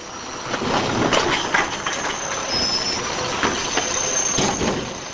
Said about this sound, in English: Using a keypad by the steering wheel, he maneuvers a hydraulic claw that grabs the bin, lifts, and tips it. Newspapers, junk mail, cardboard boxes, cans, and bottles, both glass and plastic, clatter down a chute into the truck.